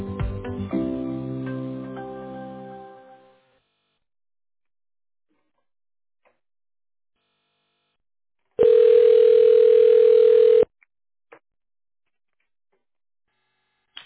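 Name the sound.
telephone ringing tone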